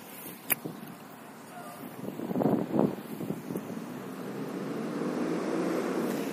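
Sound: bus passing by outside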